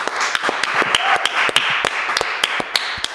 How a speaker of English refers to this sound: Yeah, let's have a round of applause for that. That was some... good television.